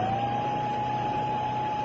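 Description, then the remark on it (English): A steady, unbroken electronic confirmation tone at a medium-high pitch, signalling that the main gates are shut, holds for about two seconds over a constant wash of rushing rain. No one speaks. “Confirmation that the gates are shut.”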